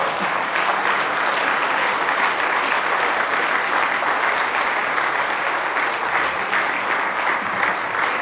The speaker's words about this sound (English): Well, just go ahead and give the Lord another good hand clap, if you will, tonight.